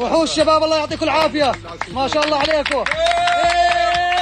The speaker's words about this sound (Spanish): Los aplausos y los vítores han vuelto a sonar durante al menos unos segundos cuando el equipo de rescatistas procedente de Jordania ha conseguido rescatarle con vida.